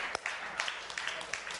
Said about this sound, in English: Why don't you give yourself another round of applause?